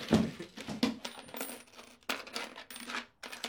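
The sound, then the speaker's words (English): Quarters clatter onto a table in several bursts, with bright metallic clinks and ringing jingles that come in uneven clumps, pause briefly, then rattle once more. “Where's all them quarters? You let me worry about the quarters. Just put the money on the table.”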